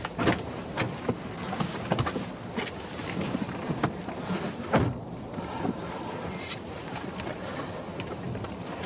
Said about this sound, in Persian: مالک در ماشین رو باز میکنه و میشینه صندلی جلو.